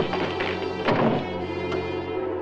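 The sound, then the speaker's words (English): Two policemen barge open the door of a second-floor room with one heavy thump, followed by a fainter knock, all over a steady low humming drone with no voices. “The two policemen barge the door open and rush in.”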